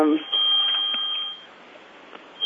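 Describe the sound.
A cell phone rings during a meeting with a steady, high electronic tone that holds for over a second, breaks off, then starts again near the end, over a faint murmur of voices.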